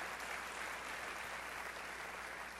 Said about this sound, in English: It's good to see that a Jayhawk got applause on this side of the border here.